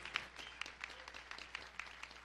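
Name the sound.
audience applauding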